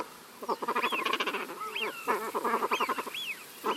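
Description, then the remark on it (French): A busy chorus of waterbird calls from mallard ducks splashing on a body of water and common cranes passing high in the sky in formation, heading south: rapid, nasal quacking bursts overlapped by rising-and-falling trumpeting cries, repeating in uneven waves for several seconds with no talking. “Des cris de canards colverts s'ébrouant sur le plan d'eau, ou de grues cendrées passant haut dans le ciel en vol d'escadre”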